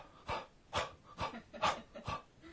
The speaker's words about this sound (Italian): Al bambino non devi dire tu adesso conta ogni 2 secondi e fai un respiro. Respira dentro, fuori.